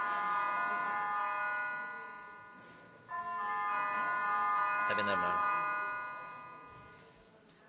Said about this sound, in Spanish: La campana tiene que terminar.